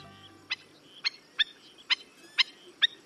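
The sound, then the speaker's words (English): A black-necked stilt, a slender black-and-white shorebird with red legs, gives a series of six sharp, yelping calls in a steady, evenly spaced rhythm, clear against a quiet background with no voices. “The appropriately named black-necked stilt has the longest legs, relative to its size, of any North American bird.”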